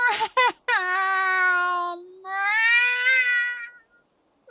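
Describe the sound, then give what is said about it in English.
A person imitates a cat, giving a couple of quick chirps followed by two long, drawn-out meows, loud, with nothing else in the background. “Meow. Don't go. Don't leave me alone. You came back.”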